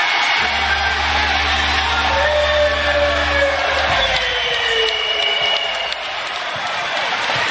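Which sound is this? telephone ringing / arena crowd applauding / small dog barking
arena crowd applauding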